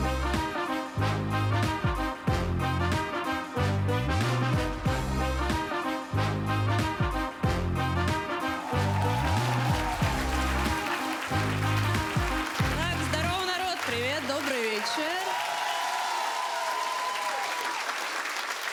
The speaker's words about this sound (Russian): Это женский стендап на ТНТ. Давайте продолжать. Встречайте, наша новая девочка, но она потрясающая, поэтому вы будете аплодировать как?